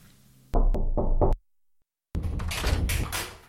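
Three quick, sharp knocks on the major's office door, followed by a brief silence and then a longer burst of muffled scraping and shuffling noise that fades out.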